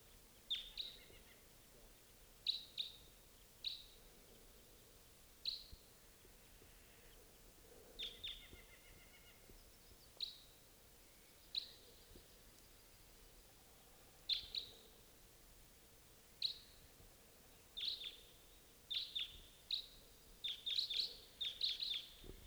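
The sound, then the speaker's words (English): A flock of birds calling: repeated short, high-pitched chirps in irregular bursts, becoming denser and overlapping toward the end, over a quiet background with no talking. “Here comes a bird. Flock.”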